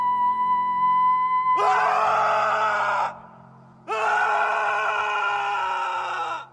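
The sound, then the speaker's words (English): A young man lets out two long, loud, strained screams in the woods, separated by a short pause, each held for over a second with a steady low hum in the background. “Young adult … screams in the woods.”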